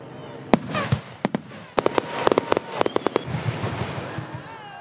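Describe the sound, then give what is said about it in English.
A Fourth of July fireworks display in Wendell crackles and bangs in a rapid, irregular string of sharp pops and booms, with a murmuring crowd of thousands audible underneath before the bursts fade out. “Well, the 4th of July fireworks were a big hit in Wendell.”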